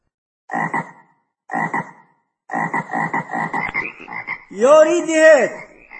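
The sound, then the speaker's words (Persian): Large frogs croak in rough, pulsing bursts: two short calls, then a longer rattling series, ending in a louder, drawn-out croak. Clear, with no talking. “این قورباغه های بی‌زیب از کجا می آیم؟”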